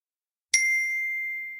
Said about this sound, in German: Kannst du nochmal so ein tolles Glockenspiel abspielen. Und dann posten wir so in Richtung Mikro. Ich mach das. Welchen such dir einen Ton aus? Hohes C.